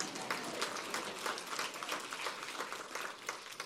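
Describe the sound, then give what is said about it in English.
Steady applause from an audience for a speaker introduced as a recent University of Wisconsin graduate fills the whole stretch, a dense, even patter of many hands clapping at a moderate level with no voices on top. “You can clap for that.”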